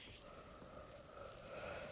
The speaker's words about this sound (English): And I've got my, I'm yawning all over the place. Does anybody want to listen to me yawn?